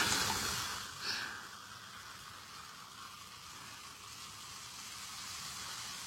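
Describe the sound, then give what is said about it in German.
Fizzy lemonade is poured, giving a bright crackling hiss that is loudest in the first second, then settles into a steady, soft bubbling fizz with no voices. “Das sprudelt ganz schön.”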